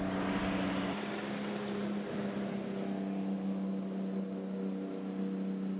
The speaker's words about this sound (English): That includes U.S. Border Patrol boats.